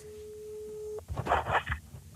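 A steady, mid-pitched telephone ringing tone holds for about a second during an outgoing call, then cuts off as a voice picks up and starts talking.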